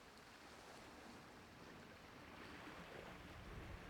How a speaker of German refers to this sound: Nimmst noch einmal das Rauschen des Meeres bewusst wahr.